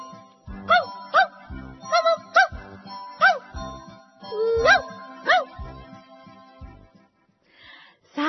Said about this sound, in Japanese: 次のクイズは何でしょう。耳を澄まして聞いててね。 ワンワンワンワンワンワンワン。 もう一度もう一度聞かせてね。